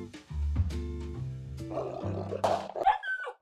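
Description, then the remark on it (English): A wolf snarls and roars, a deep rumbling growl rising into harsher, rasping snarls, loud and continuous for a few seconds with no one speaking. “But he was a wolf when I shot him.”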